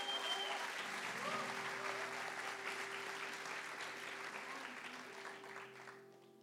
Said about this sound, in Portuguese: e eu quero que você dê uma salva de palmas para Jesus.